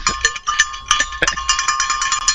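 A bell rings rapidly and repeatedly with bright, clanging metallic strikes, sustaining a steady high tone through about two seconds of loud, continuous jangling.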